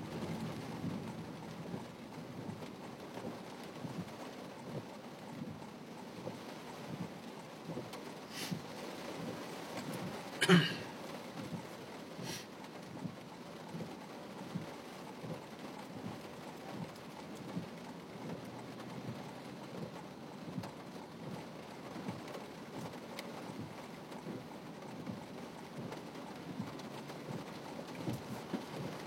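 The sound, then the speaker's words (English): Steady rain hisses and patters outdoors throughout at a moderate level, with a few brief sharper sounds rising above it partway through. No one speaks. “The rain I'm not really worried about.”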